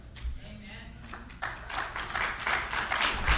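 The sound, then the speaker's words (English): Hesitant, scattered clapping from an audience starts up after a quiet moment and builds into a loose, uneven patter of claps at moderate volume. “You're not sure where to clap on that, are you?”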